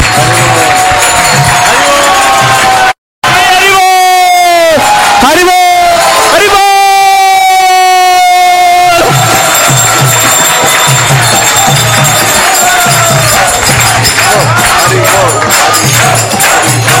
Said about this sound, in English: And let's have a round of applause for everybody who's participated all over the world.